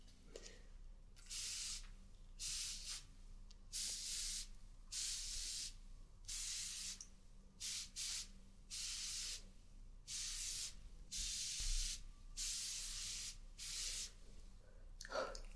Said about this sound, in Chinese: 再呢，再给你喷一个保湿喷雾，补补水。